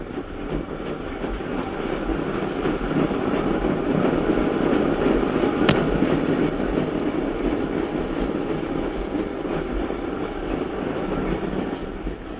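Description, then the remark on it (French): A metro train rumbles steadily as it gathers speed, its machinery humming and rattling continuously with a brief sharp click midway, fairly loud, no voices. “Voici que le train prend de la vitesse.”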